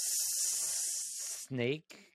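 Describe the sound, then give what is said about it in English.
A person makes a long, loud hissing sound in imitation of a snake, lasting over a second, followed by a brief voiced vocal sound and a short trailing hiss. “Snakey snake.”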